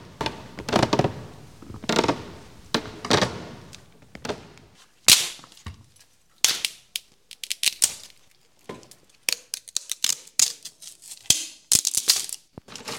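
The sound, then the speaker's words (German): Heavy wooden creaks and steps sound slowly at first as people climb a staircase one after another, growing louder, then a sharp crack gives way to a rapid clatter of snapping and falling wood as the stairs collapse. No voices. “Bei jedem Schritt knarzt die Treppe, immer lauter, so scheint es.”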